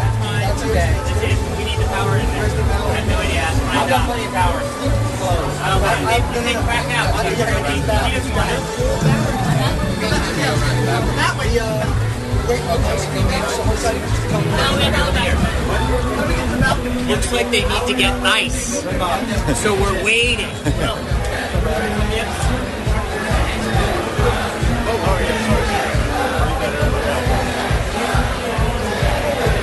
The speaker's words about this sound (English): I don't know if you could hear it. They want you to begin. The crowd's getting wild.